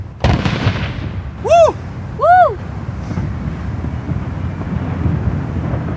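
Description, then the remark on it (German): A single heavy cannon boom, fired about 100 metres away in a more than 200-year-old ritual below Table Mountain, cracks out, then rolls away in a long, low rumbling echo off the surrounding mountains over steady wind noise. Two short arching whistle-like tones sound partway through. “Von den umliegenden Bergen kommt das Echo des Knalls deutlich hörbar zurück. Der Kanonier hat seine Arbeit getan.”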